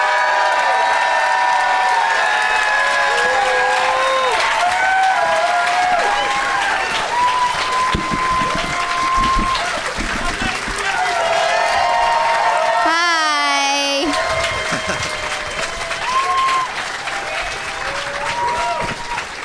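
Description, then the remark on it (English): An audience claps steadily and loudly the whole way through as guests are brought out, with whoops and shouted cheers rising over the applause and a brief wavering whistle-like cry partway in. “So let's get them out here. Please give it up”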